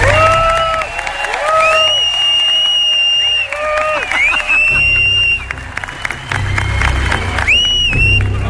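A loud crowd applauds and cheers continuously, with sustained clapping and high whistles and shouts rising above it, the roar staying strong for several seconds.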